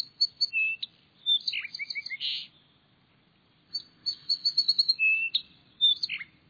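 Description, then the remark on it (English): A song sparrow sings two bright, melodic phrases of quick trills and sweet notes, separated by a short pause, clear against a faint low background hum. “On brighter fall days, and on clear, cold winter mornings with a touch of sun, listen for the song sparrow's rich, melodic phrases.”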